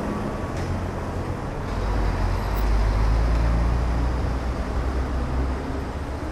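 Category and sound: vehicle, road traffic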